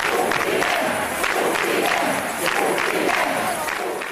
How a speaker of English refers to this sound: Those are Catalan teachers at a pro-independence rally. And you can hear them shaking sets of keys in the air. They're saying these are the keys to the public schools, and they're saying that they hold the keys, not the police.